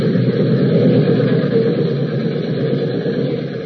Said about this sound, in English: There's the train coming around the bend.